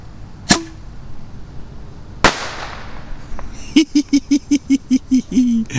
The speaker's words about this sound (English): Boom. These are good bottle rockets.